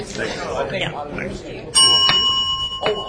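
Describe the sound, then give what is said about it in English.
Murmured talk gives way to a loud, bright bell struck once to open a meeting session, its clear metallic tone ringing on and then struck lightly again as voices continue faintly underneath. “Oh, I can open the bell.”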